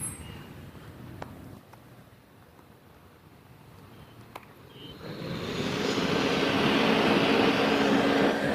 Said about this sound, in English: Oh, look, a trash truck.